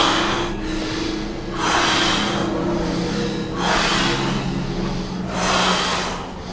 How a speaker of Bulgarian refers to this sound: Дишане. Мощно дишане. Мощно дишане. Мощно дишане. Мощно дишане. Мощно дишане. Мощно дишане. Нека има само дишане.